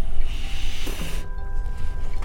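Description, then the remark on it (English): A sea turtle with a shell the size of a small coffee table takes a loud, airy breath, a broad hissing rush lasting about a second that abruptly cuts off, over a steady low rumble with faint thin tones afterward. “The sound these animals make when they breathe is amazing, like a balloon being filled.”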